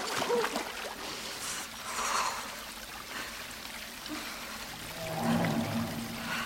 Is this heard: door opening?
no